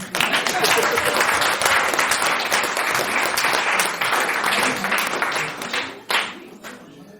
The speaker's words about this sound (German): ja, Beifall hier.